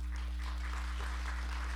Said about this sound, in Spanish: ¿Quieres darle un saludo a los hermanos? Un aplauso.